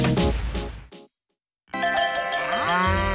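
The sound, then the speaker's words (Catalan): A dairy cow lets out two loud, drawn-out moos, separated by a brief silence, with no one speaking. “A l'Agenda del Pagès 2025, les vaques de llet.”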